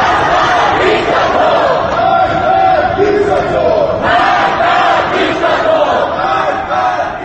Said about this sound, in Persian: به تاریخ 22 جون در منطقه آپادنای تهران ده‌ها تن با خشم فریاد می زدند.